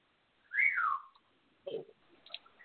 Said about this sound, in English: Now, in the background, are we hearing a parrot kind of expressing lust for the toad? I'm not clear on what I'm hearing here.